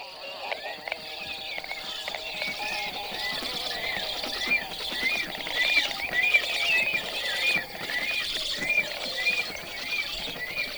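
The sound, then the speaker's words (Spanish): A pair of storks keep up a busy exchange of high whistles mixed with hoarse, raspy calls and grating, saw-like creaks, layered and continuous at a fairly steady loudness throughout. “Tienen una animada y ruidosa conversación en la que cada uno intercala sus voces habituales, alternando silbidos con cantos roncos y chirridos parecidos a los de una sierra.”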